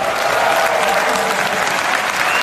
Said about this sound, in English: The crowd cheers for their candidate, but this is the easy part.